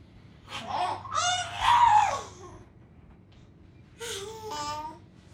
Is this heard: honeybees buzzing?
no